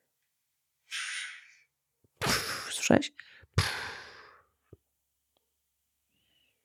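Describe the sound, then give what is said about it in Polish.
Snoring from a woman asleep in a hotel, captured on a voice recorder: three rough, breathy rasps spaced a second or so apart, moderately loud, with a short spoken question heard among them. “I długi plik jest potem z tym chrapaniem?”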